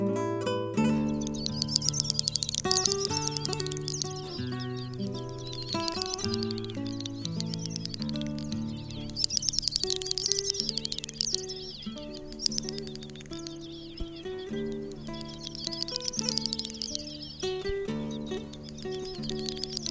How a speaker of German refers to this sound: Das war die Doppelschnepfe.